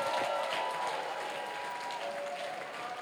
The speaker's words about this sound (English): Clap your hands for Jesus. Our daddy is in. Let your hand clap be louder.